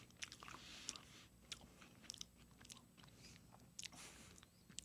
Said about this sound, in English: Nice big bite from …. Chewing.